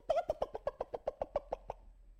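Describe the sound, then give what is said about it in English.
A person imitates a hen's warning call at a hawk: about a dozen rapid, evenly spaced clucking pulses, mid-pitched and fairly loud, with no other talking, fading out after under two seconds. “When the little hens are out and a hawk would fly over, she'd do this.”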